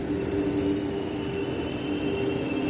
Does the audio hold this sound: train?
yes